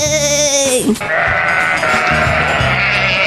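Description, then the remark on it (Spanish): A young goat bleats loudly, a wavering cry that slides down in pitch and breaks off, then gives way to rougher, raspy bleating that continues to the end. “La abejita se posó entonces en la oreja del chivito más grande y ¡zas! Lo picó tan fuerte que salió disparado como un cohete.”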